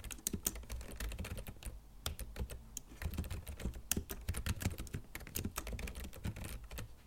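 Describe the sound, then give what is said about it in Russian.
A father types softly and rapidly on a new Logitech computer keyboard, a steady stream of quiet clicking keystrokes, with no voices. “А вот так, тихонько, как мышка, папа печатает на привезенной нам новенькой клавиатуре от Logitech.”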